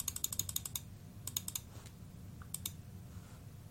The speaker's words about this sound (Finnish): Ja nyt periaatteessa, tässä nyt jäi siinä tarpomaan, nyt periaatteessa meillä on ohjelma, että jos kaikki meni putkeen, että mä painan tätä, niin se kasvaa yhdellä joka painasulla.